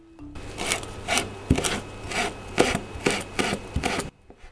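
A knife finely julienne-shreds two or three green shiso leaves on a cutting board for a miso soup, in a steady rhythm of about nine brisk, raspy strokes, some ending in a sharp tap, with no one speaking.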